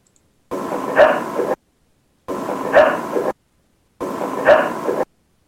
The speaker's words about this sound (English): Now, I'm going to go ahead and play that one again real quick so everybody can hear that dog bark.